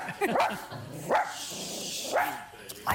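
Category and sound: animal, small dog barking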